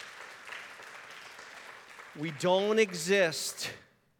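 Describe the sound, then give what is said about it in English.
An audience applauds with a steady wash of clapping. After about two seconds a loud voice cuts in over the fading applause. “You can clap at that because that's good stuff right there.”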